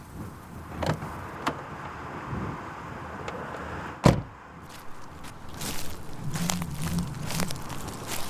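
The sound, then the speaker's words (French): A car door clicks open with a few small latch sounds, then slams shut with one loud thud as a person gets out of the car in a parking lot in the cold, followed by faint shuffling and movement. “Allez, je vais sortir de la voiture et arpenter un peu le secteur.”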